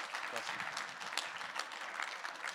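Steady audience applause given to welcome a speaker about to teach, a dense wash of clapping hands at even loudness throughout, with no pauses or talk over it.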